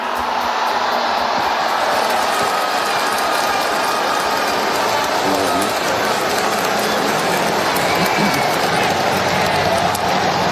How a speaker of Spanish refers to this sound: Ahora mismo hay todavía miles de personas en esta plaza que se va desalojando poco a poco a medida que coincide con el ocaso, va escondiéndose el sol. La reacción de la gente, pues te puedes imaginar. Aplausos, emoción y griterío.